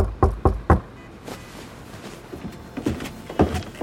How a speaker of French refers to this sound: Puisque le lendemain aux aurores, quelqu'un toque à la porte de leur chambre.